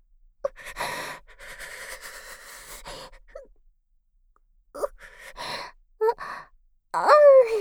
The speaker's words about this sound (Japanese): ごめんごめん。くしゃみ出そうになっちゃって。我慢したら変な息出ちゃった。